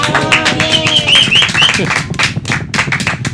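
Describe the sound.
A crowd claps steadily for a few seconds, dense and loud, with a few short high whistles and scattered cheering voices mixed into the applause.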